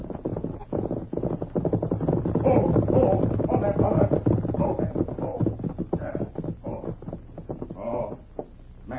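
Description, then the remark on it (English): A horse with a rider gallops fast along a trail from the west, its hoofbeats forming a rapid, steady drumming that stays fairly loud throughout, with a low rumbling undertone beneath the rhythm. “You hear horse. Run plenty fast. Yes. Seems to be coming along the trail from the west.”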